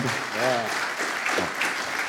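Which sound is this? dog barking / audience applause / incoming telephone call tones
audience applause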